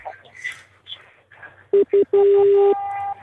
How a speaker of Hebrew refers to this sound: הטלפון שלך מצלצל